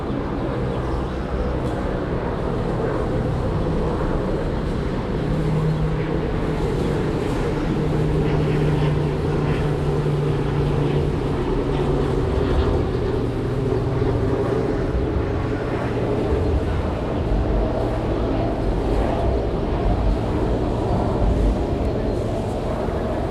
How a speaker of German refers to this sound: Frank Schulte ist im Anflug und leitet seinen Saab Jet 2000 in den Sinkflug.